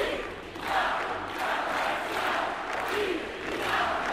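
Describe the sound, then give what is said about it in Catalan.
A large crowd shouts and cheers continuously in a dense, roaring wash of voices, with rising and falling waves of chanting, welcoming Carles Puigdemont onto a stage at the Arc de Triomf near the Parliament, a few minutes before 9 a.m. No single speaker stands out. “Són els crits que han rebut Carles Puigdemont a l'escenari que han preparat a l'Arc de Triomf a tocar del Parlament per donar-li la benvinguda.”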